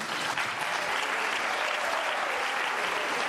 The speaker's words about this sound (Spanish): Otro de los detalles de esta mañana, aplausos y gritos de sí se puede en el Palacio de la Zarzuela.